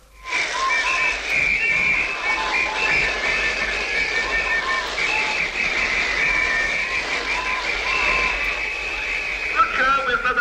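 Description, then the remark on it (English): A crowd blows whistles and shakes rattles all at once in a practice run, a loud, continuous shrill din of overlapping piping tones and clatter that holds steady for about ten seconds before cutting off. “Now, whistles and rattles.”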